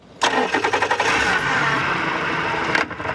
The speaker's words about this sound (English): Chris Anastasio, a water quality scientist, guns the motor on a small boat and putters into waters the color of a new spring leaf.